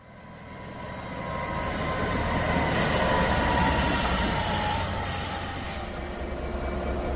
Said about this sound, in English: The train's moved into the yard now, traversed on the East Coast Main Line, and the guys from the train are making the train safe in a stationary position.